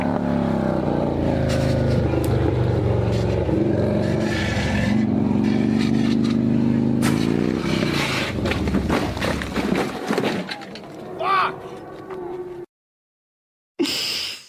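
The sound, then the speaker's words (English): A loud motorcycle engine drones steadily, its pitch rising and falling with revving and gear shifts, then cuts off abruptly into silence before a brief burst returns. “That's Billy on a motorcycle.”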